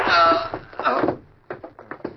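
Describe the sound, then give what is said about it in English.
A loud gunshot bursts out at the start and rings briefly as it fades, followed by several softer, scattered thumps and short bursts of noise. “Someone may have heard that shot.”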